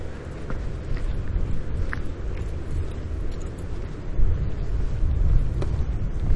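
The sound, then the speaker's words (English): Steady, heavy wind blows straight at the microphone outdoors on a windy day, a deep rumbling roar that swells and gusts louder near the end, with no one speaking. “The wind is blowing straight ahead at me, so the microphone might get a lot of wind noise picked up.”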